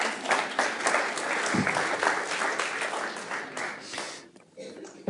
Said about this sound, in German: Also komm doch mal nach vorne und gebt ihr doch mal einen Applaus.